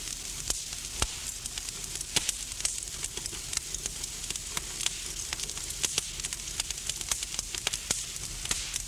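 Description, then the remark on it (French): A burning car fire crackles steadily, with a constant roaring hiss broken by irregular sharp pops and snaps. No voices are heard. “J'étais en voiture, et la voiture prenait feu.”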